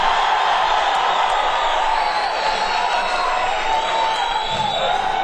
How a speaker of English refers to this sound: So can we have a nice round of applause for Marty Animal Nightmare?